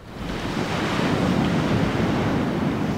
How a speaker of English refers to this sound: It's a pretty nice Friday morning on Venice Beach in Southern California. It's in the 60s with a breeze. You can hear the waves of the Pacific crash against the sand.